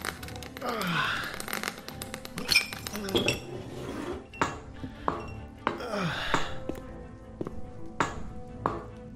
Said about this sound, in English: Cut the window? Yeah, glass cutter.